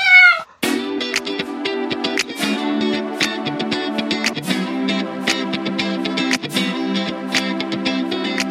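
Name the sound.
cat meowing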